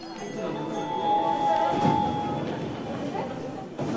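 A train rolls along the rails into downtown Tokyo, Japan, with a steady rumble and a thin metallic whine, while indistinct chatter from passengers murmurs underneath throughout.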